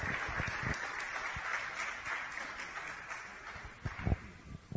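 An audience applauds in a steady, dense wash of many clapping hands, with a few sharper individual claps standing out near the end, and no voices.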